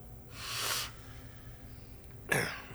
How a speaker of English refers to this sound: Dr. Rockwell pats you on the back when you start coughing.